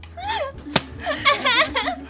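A single sharp smack of a plastic PET bottle hitting someone cracks out loudly, surrounded by people laughing and chattering.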